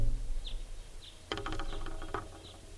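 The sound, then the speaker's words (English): A bird in a tree right above a net gives short, high alarm notes and toots at spaced intervals, broken midway by a cluster of harsher, buzzier calls, the alternate type 2 call, over a low, steady background rumble. “Giving alarms and toots now. There's the alternate type 2 call.”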